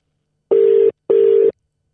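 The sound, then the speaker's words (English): Two steady electronic ringback tones of an outgoing phone call that goes unanswered, each lasting about half a second with a short gap between, loud and clear with no voices. “pick your fucking phone up”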